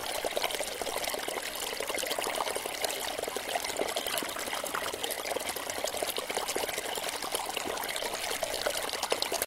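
A steady stream of fast-flowing water rushes, gurgles and splashes over stones, a continuous bright babbling with no voices, unbroken for the whole stretch.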